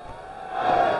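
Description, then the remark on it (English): A dense wash of baseball stadium crowd noise swells and grows louder over about a second, with a thin sustained tone running through it and no distinct voices standing out. “This crowd is electric.”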